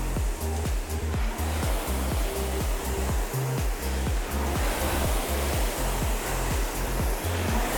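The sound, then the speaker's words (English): A rowing machine's flywheel whirs during a hard-effort piece at a stroke rate of 20, a loud, steady, airy rush underlaid by a low, rapidly pulsing hum that cycles over and over without pause. No voices are heard. “In 3, 2, 1, add a little power. Flywheels sound a little louder.”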